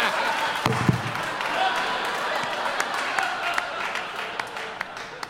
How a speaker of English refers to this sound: Applaud if you've seen Equilibrium. Now applaud if you don't think it's that great.